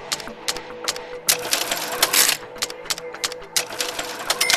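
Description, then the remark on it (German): A mechanical cash register being worked, with a rapid series of sharp clicks and ratcheting clatters, a few louder clunks mixed in, busy with no voices. “Die Registrierkasse.”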